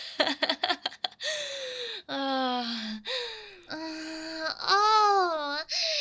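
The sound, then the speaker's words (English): Close, loud heavy panting in quick ragged bursts at first, giving way to long, strained moaning gasps and wails with breathy pauses between them. “Oh god, you're fucking panting.”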